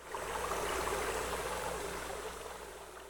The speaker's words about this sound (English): The creek water flows through this grate into a tunnel under the sidewalk.